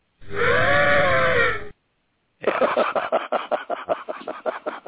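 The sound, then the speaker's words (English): A person imitates an elephant with a loud, brassy, wavering trumpet call lasting over a second. After a short pause comes a quick run of rhythmic, breathy, rasping pulses. “Yeah, I'll do the elephant noise.”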